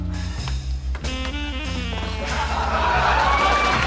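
crowd, crowd cheering

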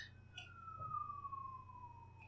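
vehicle, emergency vehicle siren outside

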